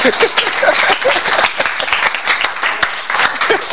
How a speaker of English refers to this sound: If you want to clap, clap.